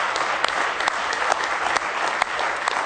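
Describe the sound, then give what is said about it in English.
An audience in church claps in praise of the Lord, a dense, steady wash of many hands with sharp individual claps popping out, loud and sustained throughout without any talking. “Give Him a real good hand clap of praise tonight if you love Him.”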